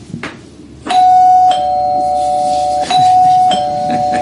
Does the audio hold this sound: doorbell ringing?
yes